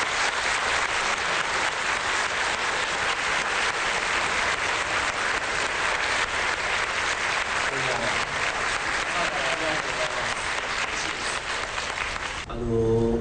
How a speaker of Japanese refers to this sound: コーラケンマさん、大きな拍手でお迎えください。